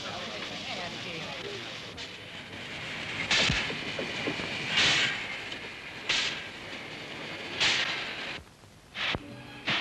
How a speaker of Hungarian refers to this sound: Gyors vonat érkezik a negyedik vágányon.